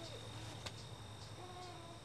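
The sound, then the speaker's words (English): A faint, steady, high-pitched trill of autumn insects drones on throughout in a garden in Madison. A soft click comes partway through, with quiet outdoor ambience underneath. “You can hear the insects singing their final songs, squirrels frantically preparing for winter, and migratory birds preparing for their long journey.”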